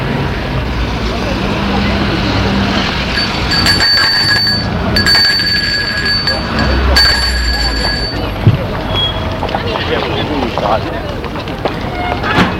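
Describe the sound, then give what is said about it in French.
A doorbell at the front door of a house is rung by a visitor, sounding three times in quick succession, bright high-pitched tones cutting through a steady, noisy background with faint voices underneath. “Il sonne.”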